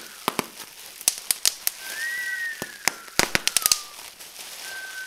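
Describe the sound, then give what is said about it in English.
Fourth of July fireworks: a rapid, irregular string of sharp crackling pops, with a thin whistle sliding up and fading over a steady sizzling hiss. No one speaks. “When it goes on, it sounds like a crack on the wall with air sizzling out.”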